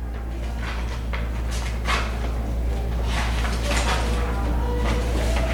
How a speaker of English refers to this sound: Slight metallic sound of a slow knob turning.